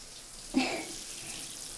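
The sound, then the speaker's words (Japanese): A sudden gush of warm water pours out, a steady rinsing splash that starts abruptly and continues softly, washing soap foam off someone who is asked to stay still. “泡を流すからまたじっとしていてね。”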